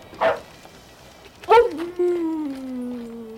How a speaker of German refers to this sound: als Timmy plötzlich anfing, laut zu bellen und sich auffällig zu verhalten